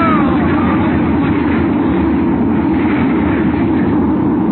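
A big wave crashing over a crowded lifeboat in raging seas: a loud, sustained roar of churning water with a deep rumble underneath, holding steady for several seconds with no voices.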